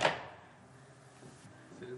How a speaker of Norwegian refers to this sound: Jeg hører at det noen der ute. Ja, bare åpne døra du.